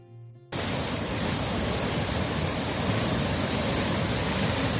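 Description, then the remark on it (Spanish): A river in flood in Logroño rushes under the city's bridges in a loud, unbroken roar of churning water, steady throughout, at about 3.26 metres high and 680 cubic metres per second around midday, after a brief faint tonal sound at the very start. “Cuando aún no había amanecido, el caudal había bajado de intensidad, aunque el río sigue hablando alto.”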